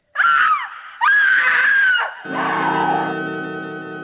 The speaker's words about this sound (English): It had happened while we were talking. The scream came from the bridal chamber.